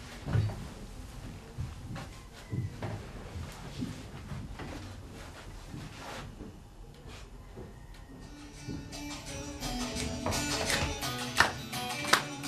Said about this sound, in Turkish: Şu sandalyeyi kenara al. Şu sandalyeyi de öbür kenara al. Bir zahmet. Evet, onda uygun bir yer al öbür sandalyeyi de.